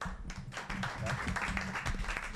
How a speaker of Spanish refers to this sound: Y para entonces comenzar con este conversatorio, voy a pedir que recibamos con un fuerte aplauso a la persona que va a dar la introducción